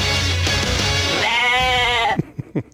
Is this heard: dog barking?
no